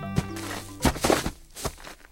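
An American crow gives its rattle call: a short harmonic note followed by a handful of dry, hollow knocks spaced unevenly over about two seconds, with no talking.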